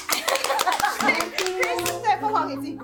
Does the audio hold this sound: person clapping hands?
yes